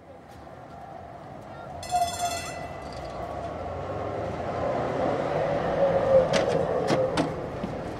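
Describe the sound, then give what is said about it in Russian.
Inside a tram car with all seats taken, rolling along its rails: a steady low rumble with metallic squeals, a brief bell-like ringing burst near the start and a few sharp clicks and clacks toward the end. “Танечка вместе с мамой вошла в вагон трамвая и теперь оглядывалась по сторонам”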